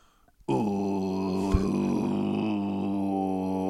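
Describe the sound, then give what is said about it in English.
After a brief quiet moment, a single voice attempts throat singing, breathing out the whole way, holding a low, buzzing, didgeridoo-like drone steadily for about three seconds, fairly loud. “It's basically, as some pod buds pointed out, the tat didgeridoo was kind of throat singing anyway.”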